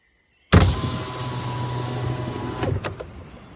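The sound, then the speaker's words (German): A car window motor whirs steadily for about two seconds as the glass lowers, ending with a soft clunk; clear, with no voices. “kurbelte das Fenster herunter.”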